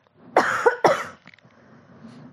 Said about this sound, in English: I need to cough for a sec, sorry.